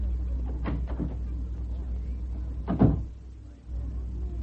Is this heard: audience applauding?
no